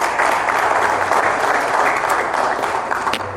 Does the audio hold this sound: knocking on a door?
no